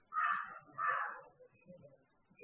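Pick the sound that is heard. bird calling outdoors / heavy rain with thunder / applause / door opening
bird calling outdoors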